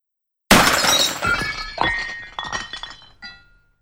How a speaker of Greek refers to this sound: Σπασμένο τζάμι.